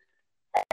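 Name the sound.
loud sneeze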